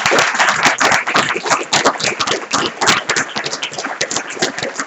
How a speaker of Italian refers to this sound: Allora, io farei un grande applauso